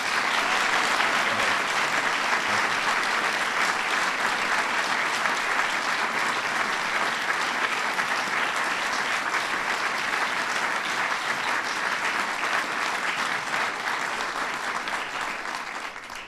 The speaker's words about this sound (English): For giving life to those characters and joy to so many of us, let's give Meryl Streep a round of applause.